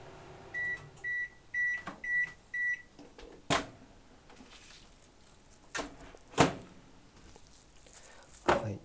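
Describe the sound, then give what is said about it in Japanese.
A microwave oven defrosting a frozen chicken breast hums as it finishes, giving five short, evenly spaced high-pitched beeps, followed by a few sharp clicks and clunks like the door opening and closing. “鶏胸肉を1枚冷凍しておいた、小分けに冷凍してあったのを、電子レンジで解凍しました。”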